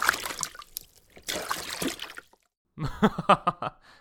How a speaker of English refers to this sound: So then Moses did as God told him. "God, be with the staff of my brother Aaron, and may your power confound my enemy." And so the staff was brought down upon the water of the Nile, and it all turned to blood.